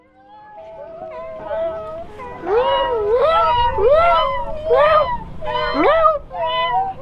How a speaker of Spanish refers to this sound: Al llegar, escuchó unos maullidos y salió a buscar qué era lo que estaba pasando.